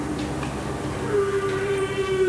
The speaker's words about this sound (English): That's the whale.